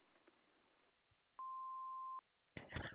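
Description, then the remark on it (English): A single steady answering-machine beep, loud and flat-pitched, lasting just under a second over faint line hiss, then a voice begins speaking right after it ends. “Please leave a number after the beep, and I'll get back to you if I can.”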